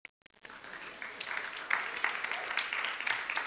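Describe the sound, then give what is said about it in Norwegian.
An audience breaks into applause for those present who have run a marathon, after a brief pause, a dense crackle of many hands clapping that holds steady at moderate loudness with a few sharper peaks. “Applaus.”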